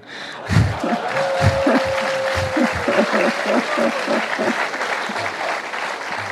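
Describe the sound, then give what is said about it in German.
A crowd applauds loudly and steadily for several seconds, with scattered cheers, a sustained whistle-like tone early on, and rhythmic low thumps like stomping underneath. “Wenn ich Applaus will, sage ich vor Hannover.”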